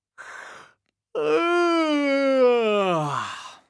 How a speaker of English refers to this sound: But first of all, let's warm up. So, stand up in a space, shoulders relaxed and feet apart. Let's have a big yawn to start with.